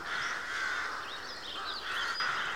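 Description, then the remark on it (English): Several crows caw repeatedly in a noisy, overlapping chorus, their harsh calls filling the scene with no speech. “Good gracious, the crows certainly have gotten chatty, haven't they?”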